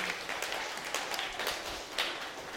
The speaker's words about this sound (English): You've been really good helpers. Can you give them a round of applause for being my helpers?